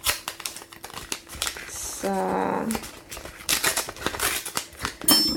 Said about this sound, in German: Was wir für die Zahnpasta benötigen, ist zum einen ein Esslöffel Natron. Ich mache hier mal die Packung auf. Da gibt es so kleinere Papierpackungen drin.